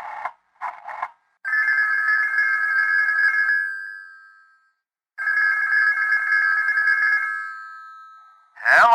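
A telephone rings twice with long, steady electronic trills separated by a pause, preceded by a couple of quick clicks and ending in a brief warbling chirp, as a man in a den uses the phone. No one speaks.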